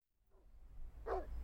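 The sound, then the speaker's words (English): A single sharp dog bark rings out over a low background rumble, preceded by a faint, softer yelp. “There's a dog there. You could get bitten.”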